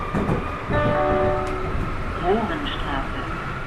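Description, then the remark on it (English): A subway train rumbles steadily through the busy Mohrenstraße subway station in Berlin, with sustained tonal whining notes rising and fading over the noise and faint voices murmuring in the background. “Mohrenstraße also gave its name to a busy subway station.”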